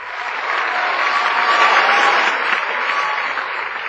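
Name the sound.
audience applause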